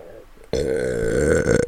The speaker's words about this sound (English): Hold on, I need to burp.